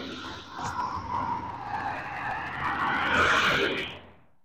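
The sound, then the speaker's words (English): A car passes by outside on a cold morning, its tire and engine noise swelling to a loud, whooshing peak with a rising whine before quickly fading away. No one speaks. “I picked that car up pretty well.”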